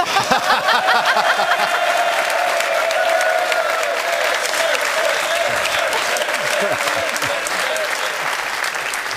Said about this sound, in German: Jana, Stefan hat den Applaus, das Applausduell gewonnen.